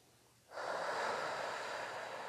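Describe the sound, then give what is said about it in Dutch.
A deep, slow breath drawn in during a guided meditation, after a brief hush, a broad airy hiss that swells quickly and holds steady for nearly two seconds, with no talking over it. “Gaan we de ademhaling weer iets dieper maken.”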